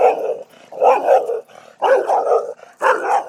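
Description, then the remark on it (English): A dog behind an invisible fence barks loudly and repeatedly at a passing walker in harsh, snarling bursts, about four volleys with brief pauses between, sounding aggressive and agitated. “And they have an invisible fence that I hope works well, because you're going to hear this thing scream and holler at me in a minute.”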